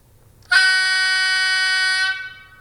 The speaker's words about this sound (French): Klaxon grave pour le 8. Trompe sonore, ça s'appelle.